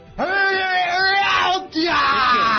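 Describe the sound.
A person imitates a scream with a loud, sustained, strained shriek in two long bursts separated by a brief breath.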